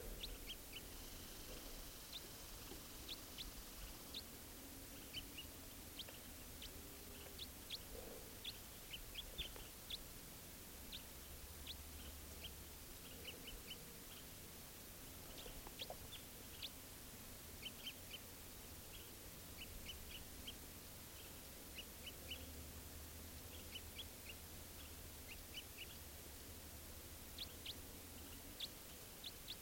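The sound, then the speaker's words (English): A wild bird perched in the top of a tall Douglas fir gives short, high flight calls, repeated irregularly throughout over a steady background hiss and low rumble, with no talking. “Here's that wild bird again, giving flight calls.”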